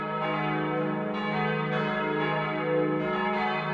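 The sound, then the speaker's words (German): The hand-rung three-bell peal of the Carmelite convent St. Maria vom Frieden in Cologne, Germany, rings steadily, overlapping strikes arriving every half second or so in a continuous wash of resonant, humming tones, fairly loud, with no voices. “Das Dreiergeläut des Karmelitinnenklosters St. Maria vom Frieden ist jedoch das größte davon.”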